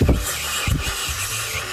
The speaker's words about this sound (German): Wie so ein schneller Fisch, der unter Wasser an dir vorbei rauscht.